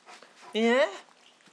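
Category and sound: animal, dog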